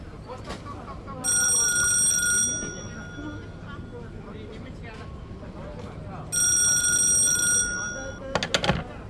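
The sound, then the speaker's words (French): An old-fashioned telephone bell in Sainte-Anicette rings twice, each bright metallic ring lasting over a second, separated by a pause, over a low murmur with faint voices. “Il n'est pas surprenant que son hôtel abrita, vers 1894, le premier téléphone public à Sainte-Anicette.”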